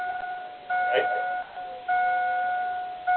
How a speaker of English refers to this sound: Somebody's getting into a car.